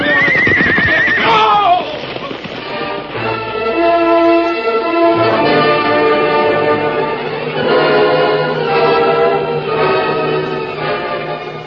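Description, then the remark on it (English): A horse lets out a loud, shrill whinny, then sustained dramatic orchestral music swells and carries on steadily to the end. No one speaks. “A few moments later, a powerful white stallion and a paint carried their riders along the floor of Rainbow Valley.”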